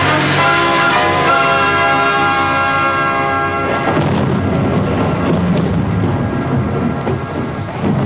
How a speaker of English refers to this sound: On April 6th, the monsoons came. They couldn't have come at a worse time. Bang, in the middle of the rainy season.